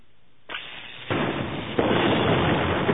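An explosion blasts open a warehouse's loading dock side door, leaving a smoking hole: three loud, rising bursts hit in quick succession, each stepping up into a harsh, sustained roar of crackling noise that doesn't fade.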